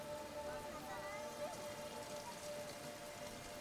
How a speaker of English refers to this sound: Nearly all the rain falls during the summer monsoon.